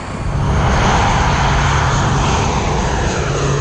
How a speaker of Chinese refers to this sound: 伴随着震耳欲聋的发动机轰鸣声，我们所乘坐的战机呼啸升空。